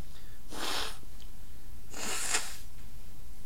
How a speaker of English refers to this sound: If I can get rid of this cough.